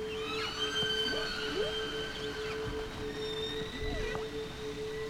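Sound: whale vocalization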